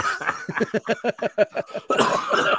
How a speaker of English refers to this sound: I got the Goochberg cough right now.